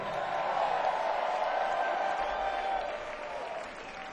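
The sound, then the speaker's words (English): Steady, dense applause from a large concert crowd in Atlanta, Georgia, greeting the band's keyboard player as he is introduced: a continuous wash of clapping with faint cheers mixed in, holding strong for several seconds before easing slightly at the end. “Please put your hands together for my friend playing the keyboards for you tonight.”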